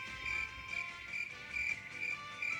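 Crickets chirp in steady, evenly spaced pulses, a high thin trill repeating about twice a second at a modest volume, with no voices and only a faint low background hum.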